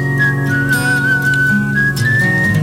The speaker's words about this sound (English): Rolling Stone has put together a list of the best whistling songs of all time. Let's give it a quick listen to this montage.